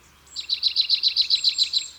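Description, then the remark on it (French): A marsh tit sings a quick, even series of about twelve identical high, bright notes, repeated in a steady rhythm with no voices present. “En lisière des bois plutôt qu'en forêt, voici sa petite cousine, la mésange nonnette. Comme souvent chez les mésanges, son chant est une répétition d'un motif simple.”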